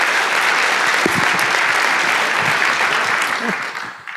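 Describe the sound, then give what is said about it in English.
A crowd claps steadily in a dense, sustained wash of applause welcoming a PhD student before a talk on physically unclonable functions, fading slightly at the end, with faint voices mixed in underneath. “A warm round of applause, please.”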